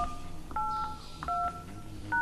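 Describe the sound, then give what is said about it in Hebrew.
A quick series of telephone keypad tones, about four short dual-pitched beeps in an uneven rhythm, as a password is entered on an automated Hebrew-language phone line, fairly loud over a faint background hiss, with no talking. “נא קישו את הסיסמה שלכם, ואחר כך תולמית.”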